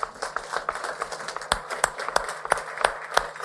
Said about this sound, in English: I mean, I really feel that that deserves a round of applause there. You guys are doing great.